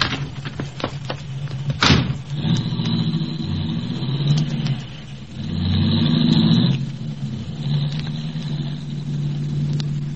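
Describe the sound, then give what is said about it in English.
A car engine rumbles steadily at a low pitch, swelling louder midway as the car pulls up and slows beside someone waiting at a street corner for the light to change, then settles back to an idle hum; a sharp thump sounds at the start. No voices. “I'm waiting at a street corner for the light to change when a car pulls up beside me.”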